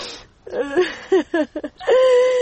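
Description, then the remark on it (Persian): A mother sobs in short, broken whimpering bursts with falling pitch, then breaks into a long, sustained wailing cry as her son is about to leave. “مادر جان گریه نکو، اولم زود برتان روان میکنم.”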